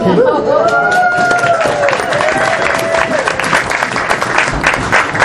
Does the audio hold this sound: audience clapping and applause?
yes